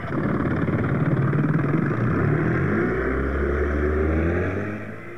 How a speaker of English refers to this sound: She started the engine and we roared out to sea.